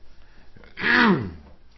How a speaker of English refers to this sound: Try and limit myself on the coughing and things like that